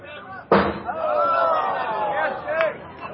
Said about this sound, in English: And that one lands on the metal seat. That's a souvenir for a young fan there.